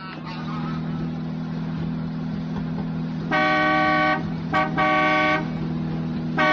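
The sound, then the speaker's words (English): A woman driver's car horn blares in a long honk, then two short bursts follow in quick succession, loud, over a steady low engine rumble. “Learning to drive, lady? Listen to me, horn blower.”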